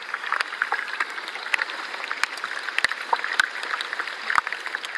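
Dense, continuous fizzing and crackling from a small melted iceberg of glassy ice, heard from a tender, with countless tiny pops and sharp clicks from tiny ice flakes cracking and breaking, scattered irregularly over a steady bright hiss, like a sizzling crackle with no voices.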